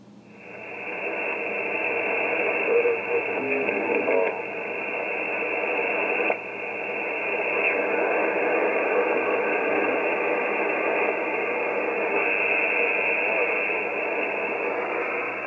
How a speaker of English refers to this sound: It's a bit abstract, that one. Just sounds like interference to me. I think there's a slight voice. They've described that as Olivia.